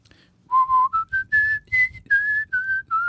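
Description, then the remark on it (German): A clear whistled melody of the German folk song "Hoch auf dem gelben Wagen," about a dozen bright notes stepping upward and then easing back down, whistled alone with no talking. “Hoch auf dem gelben Wagen.”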